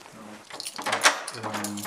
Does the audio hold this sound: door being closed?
yes